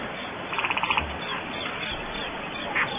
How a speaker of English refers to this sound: Here is Field with Crickets. This can't be it. This can't be it.